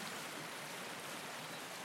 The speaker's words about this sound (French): Il y a la rivière d'abord.